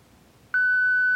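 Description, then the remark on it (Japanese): A single steady electronic beep begins about halfway through after a quiet stretch, a clear pure tone with faint harmonics that holds loudly until the end. It is an app's prompt during face learning, after which the user names the person in front of them. “ビープ音の後であなたの前にいる人物に名前をつけてください。”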